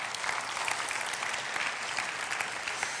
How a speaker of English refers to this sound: Come on, can you give God a hand clap for that?